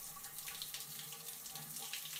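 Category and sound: household object, shower water running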